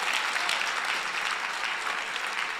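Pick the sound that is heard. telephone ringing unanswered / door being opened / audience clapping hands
audience clapping hands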